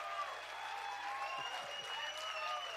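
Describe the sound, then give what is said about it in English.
A large crowd applauds together as a clap offering to Jesus, a dense, steady wash of clapping that holds at an even, fairly loud level throughout, with faint voices and cheers mixed in. “Oh, come on, let's give Jesus a real good clap offering.”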